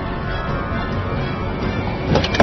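A steady low rumble of a car runs throughout, then a couple of short mechanical clicks and a clunk near the end as the driver, hands through the window on FBI orders, opens the car door from the outside with the left hand.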